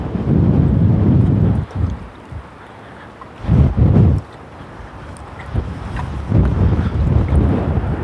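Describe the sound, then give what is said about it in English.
Strong, gusty wind from a big gust front arriving from the northeast ahead of rain buffets the microphone in loud low-frequency surges, rising and falling in several heavy bursts with calmer lulls between, no voices present. “And that big gust front is...”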